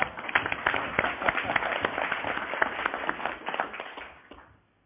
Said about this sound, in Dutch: Dat is wederom een applaus, hè?